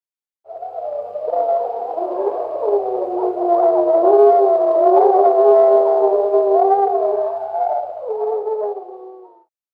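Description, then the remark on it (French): Several wolves in a forest in Poland howl together in long, overlapping wavering tones that rise and fall, sustained for about nine seconds before fading out, with no talking. “I can hear wolves.”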